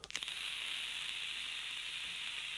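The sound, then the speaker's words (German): An e-cigarette puff: a few quick clicks, then a steady, bright sizzling hiss that holds evenly for about two and a half seconds, with no voices. “Das Gute an den Knöpfen ist, ich kann zwischendurch mal dampfen.”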